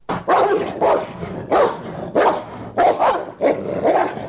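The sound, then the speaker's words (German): A large dog barks loudly, about seven deep barks in a steady, evenly spaced series, with no voices. “Im selben Augenblick sah es dicht vor sich einen großen Hund stehen.”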